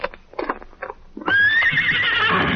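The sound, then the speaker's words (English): A horse named Victor lets out a loud, sustained warning whinny at night under a full moon on a trail, preceded by a few softer snorting, shuffling sounds. “Then he was suddenly startled by a warning whinny from his horse, Victor.”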